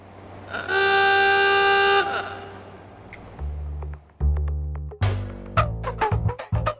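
An old, small black doorbell in Juneau, reconnected one more time for KTOO to record, blares once with a loud, harsh buzzing tone that holds for about a second and a half, followed by low rumbling thumps and scattered clicks.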